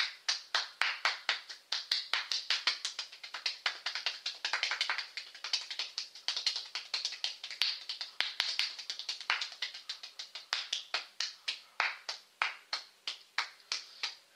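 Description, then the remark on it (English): Sharp hand claps come in a quick, dense stream with no voices, then thin out into slower, evenly spaced claps near the end. “After a while when you clap.”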